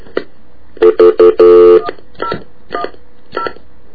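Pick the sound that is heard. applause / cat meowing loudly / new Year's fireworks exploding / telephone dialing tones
telephone dialing tones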